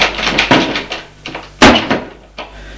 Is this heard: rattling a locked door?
yes